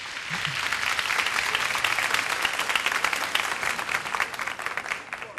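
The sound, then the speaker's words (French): Steady audience applause: many hands clapping in a dense, crackling wash that stays at an even level for several seconds, with no voices standing out. “Applaudissements.”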